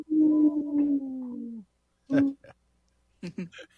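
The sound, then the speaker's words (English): A person on the Native Roots Radio show imitates a wolf howl: one long, low, steady vocal tone that droops slightly in pitch over about a second and a half, followed by a few short voiced sounds. “Yeah, a little puppy wolf there.”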